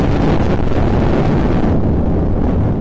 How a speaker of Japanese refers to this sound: いやいや、これはロケットでしょう。